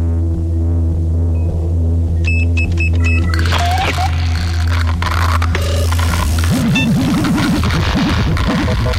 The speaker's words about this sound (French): Avec en sous-main, les machines font toujours une espèce de, comme si elles avaient leur propre respiration, quoi. Elles font un truc qui fait il y a toujours un room tone dans la pièce qui ressemblerait à nos gros climatiseurs, quoi.